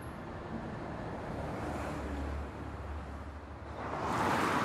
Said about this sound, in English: Cars speeding along the motorway from above.